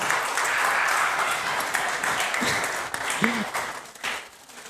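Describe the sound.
An audience applauds steadily for several seconds for the brave ones, a dense wash of clapping with scattered cheers and voices mixed in, fading slightly toward the end.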